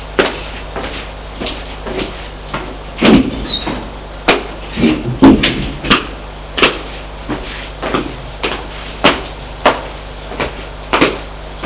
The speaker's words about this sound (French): Appuie sur le bouton, le voyant vert s'allume. La porte s'ouvre et il entre.